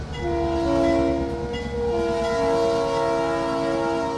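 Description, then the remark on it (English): A locomotive's horn sounds a long, steady, loud blast, layered over the deep rumble of rolling rail cars, with no one speaking. An Iowa Northern locomotive is switching rail cars alongside the co-op grain elevators in Forest City, Iowa. “It's been 7 years since folks around Forest City, Iowa, have heard a train whistle in their town, but Iowa Northern locomotives are again switching rail cars alongside the co-op elevators towering grain silos.”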